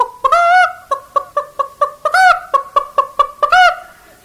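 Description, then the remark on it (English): A voice imitates a hen's cackle: a loud run of quick rhythmic clucks broken twice by long, drawn-out squawks, in the pattern of a hen strutting out of the hen house after laying an egg. “Now down toward the hen house, one of them comes strutting out of there, and she'll be just as proud having laid an egg.”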